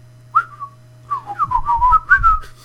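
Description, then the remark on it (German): A melody whistled clearly: one short opening note, a brief pause, then a lively run of bouncing, gliding notes, with a low steady hum and some soft thumps underneath. “Auch da sind die Pfeifen wieder.”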